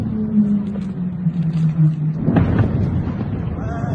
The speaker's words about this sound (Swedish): Natten mot den 3 januari 2026 i Caracas. En Caracasbo fångar på film hur åtminstone 8 helikoptrar flyger över den venezuelanska huvudstaden genom den molnfria natten.